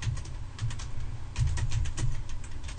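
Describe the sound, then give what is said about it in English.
Rapid, irregular clacking of keys on a computer keyboard, steady for a few seconds, with a low hum underneath and no one talking. “I'm typing.”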